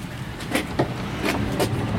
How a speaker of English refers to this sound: Here, I'll get the door.